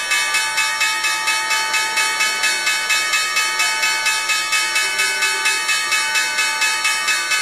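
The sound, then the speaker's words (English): The opening bell at the New York Stock Exchange rings loudly and continuously for several seconds, its rapid, steady clanging pulses forming a harsh metallic ring, with no voices or applause over it. “after we hear the opening bell at the New York Stock Exchange”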